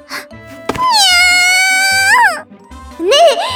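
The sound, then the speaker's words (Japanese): A cat meows twice: a long, drawn-out meow that rises in pitch at the end, then a shorter, higher meow after a brief pause, with a faint low hum underneath. “信じられない気持ちで鏡の前に行くと、そこには一匹のとっても可愛らしい猫が。 にゃ。”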